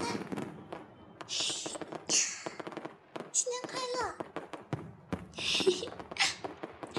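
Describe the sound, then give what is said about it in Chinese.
Purple fireworks crackle and pop in rapid, uneven bursts throughout a New Year celebration, with fizzing hiss between sharp bangs. A child's voice calls out briefly over the noise. “啊！放烟花了！放烟花了！快看，弟弟，好漂亮啊，紫色的。”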